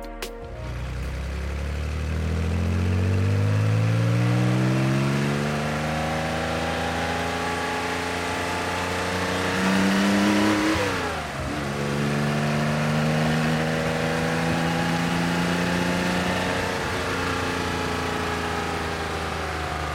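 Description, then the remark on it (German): A 911 ST sports car, lightened to 960 kilos, with wider fenders and lowered: its engine revs hard and climbs in pitch, drops briefly at a gear change midway, then winds up again. Loud and continuous, with no voices. “Auch die Spur war breiter, tiefgelegt wurde der Wagen natürlich auch noch und das alles zusammen ergab dann den 911 ST.”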